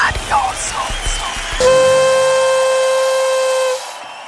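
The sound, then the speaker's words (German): A toy party horn made in Hong Kong, blown in the studio, lets out one loud, steady blast lasting about two seconds and then cuts off, right after a moment of voices and chatter. “Die Tröte will aber jetzt auch nicht mehr so.”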